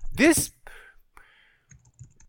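Faint, irregular keyboard clicking after a brief loud vocal burst at the start, the soft keystrokes tapping away quietly in the background.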